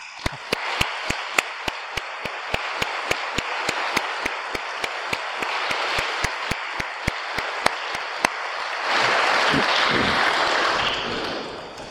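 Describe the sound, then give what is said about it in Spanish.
A church audience applauds the standing men of the San José group on Father's Day, steady rhythmic claps cutting through a wash of clapping for about eight seconds, then swelling into a louder, fuller burst of applause near the end. “El aplauso es doble porque hoy es el Día del Padre.”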